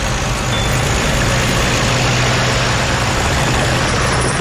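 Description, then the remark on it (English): The engine of a 12-ton truck stopped on an ice road across a frozen lake idles with a loud, steady low rumble and a broad hiss layered over it, holding an even drone for the whole stretch with no voices. “But stopping the 12-ton truck on a frozen lake could also put too much stress on the ice.”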